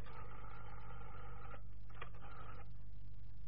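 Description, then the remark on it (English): Telephone dialing and ringing as someone rings the same number again: a steady, buzzy electronic phone tone that breaks off, a short burst, then the tone briefly again before fading into hiss, all over a low hum with no voices. “are you ringing the same number?”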